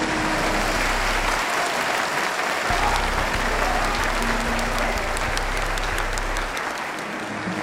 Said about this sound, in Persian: لطفا ایشون رو تشویق کنید.